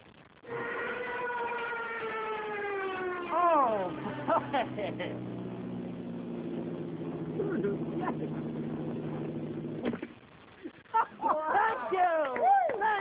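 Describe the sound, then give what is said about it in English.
A voice imitates a small plane coming down and landing in a pool of mud, a steady harmonic drone that slides lower in pitch, then turns into sputtering, gurgling mouth noises before a brief exclamation and wobbly vocal squeals. “Now this is a youngster plane landing in a pool of mud.”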